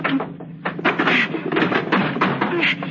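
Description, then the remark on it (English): A heavy table scraped and shoved across a floor and pushed against a door, a continuous grinding drag broken by a few bumps and knocks over about three seconds. “Let's push this table against the door.”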